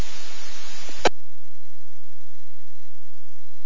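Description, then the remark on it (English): A loud burst of hissing radio static from a station breaking squelch with no traffic lasts about a second, then cuts off abruptly with a sharp click, leaving near-silence with faint background hum. No voice comes through. “That control, here's the station breaking squelch, but no traffic.”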